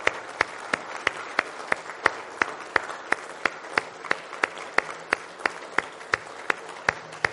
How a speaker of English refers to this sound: If you would, please, please join me with a big round of applause. And please stand up on your feet for just a moment for all the soldiers that have done so much for us.